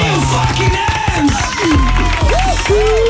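A crowd claps and cheers steadily and loudly, with shrill whistles and whoops rising and falling over the dense patter of hands for a few seconds.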